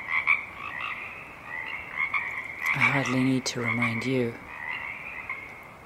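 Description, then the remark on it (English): A marsh frog chorus croaks and trills steadily throughout at 4:30 a.m., just before dawn, in a marsh on Saturna Island, British Columbia, a dense, continuous wash of calls, while a man's voice speaks briefly over it partway through. “The frog chorus is winding down, and the waking song sparrow begins to be heard.”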